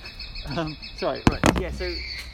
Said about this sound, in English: recording of that bird.